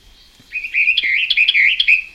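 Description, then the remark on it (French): A Western Orphean warbler sings its French song, a continuous, fluid warble of rich, rolling phrases at a fairly high pitch. It starts after a brief pause and continues steadily to the end with no talking. “Et maintenant, ça va être... Voilà son chant français.”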